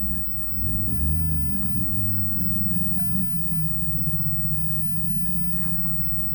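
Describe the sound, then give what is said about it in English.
A heavy engine rumbles steadily next door, its low growl rising and falling slightly as it idles and revs: an old truck or tractor that a boy is fooling with outdoors, with no voices present. “It's a boy, I think, out there fooling with his old truck or tractor or something.”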